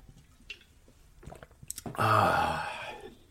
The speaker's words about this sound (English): Grab your beverage, folks. It's time for a gulp.